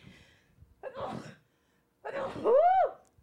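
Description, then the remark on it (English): One loud sneeze: a breathy gasp, a brief pause, then a forceful voiced burst whose pitch swoops up and falls away. No one speaks. “Bless you. Thank you.”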